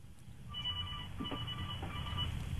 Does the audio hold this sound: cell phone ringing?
yes